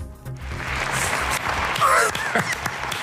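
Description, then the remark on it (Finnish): A burst of applause from a small group, steady dense clapping that carries on for a few seconds, with a brief whistle cutting through near the end. “Sain aplodit, yes.”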